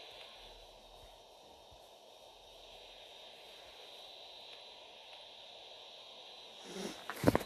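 A steady, hissing airplane engine drone fills the cabin of an aircraft in a video game match, which players jump out of from the back. It plays at moderate volume, unchanging for several seconds before a brief louder rustle and rise near the end.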